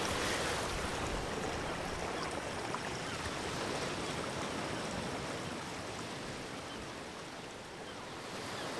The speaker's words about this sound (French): On est en haut de rivière et c'est très sec. Hein. C'est très très sec. Le petit cours d'eau est vraiment petit.